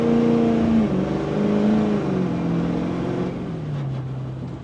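An SUV accelerating hard: a loud, continuous engine drone with a humming whine that steps down in pitch a few times, over steady road and wind rush, with no voices.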